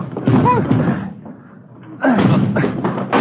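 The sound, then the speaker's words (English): Two heavy, booming thuds land about a second and a half apart as men ram a front door blocked by something piled against it, with strained grunts and voices mixed into the impacts. “Come on, hit it again. Yeah, all right. Come on. They got it blocked or something. Something piled against it.”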